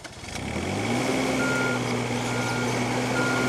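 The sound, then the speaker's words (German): A landscape gardener's delivery van, towing a trailer with a small excavator on it, revs its engine and holds a steady low drone while a reversing alarm beeps faintly and continuously in the background, with no one speaking. “Er ist mit einem Lieferwagen gekommen und auf dem Anhänger hat er einen kleinen Bagger.”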